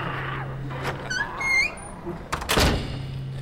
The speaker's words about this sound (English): The door is shut, Mr. Harker.